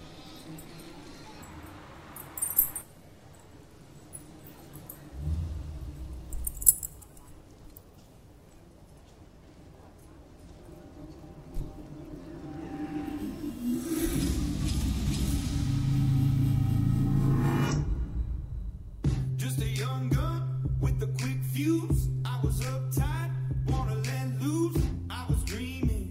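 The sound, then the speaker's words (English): After a long, murky quiet stretch, a country hip-hop pop song with a steady, punchy beat and bright melodic lines starts up, playing fairly loud for the final several seconds. “Number two is a song called …. Also by ….”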